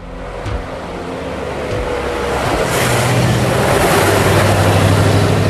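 Bessie, the Doctor's vintage Edwardian open-top roadster, speeds at breakneck pace down the A2, its engine droning steadily with rising revs and loud rushing wind and road noise throughout, continuous, with no voices.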